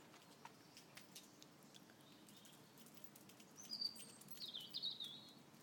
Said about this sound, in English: I don't know what that bird is. I wonder if it's a robin.